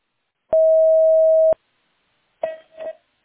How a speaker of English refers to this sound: Record your message at the tone. Press any key or stop talking to end the recording.